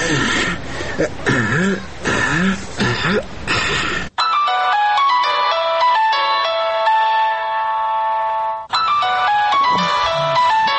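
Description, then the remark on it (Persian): A telephone rings with a bright electronic ringtone, a steady melodic run of stacked tones lasting several seconds. Talking comes before it, and a voice starts up again right after. “باش که در تیلیفون زنگ بزنم.”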